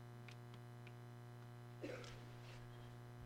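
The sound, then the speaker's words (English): A steady, quiet electrical hum of an air conditioner runs the whole way through, with a brief clunk and whoosh partway in as the unit kicks on. “I'm going to turn the air conditioner on.”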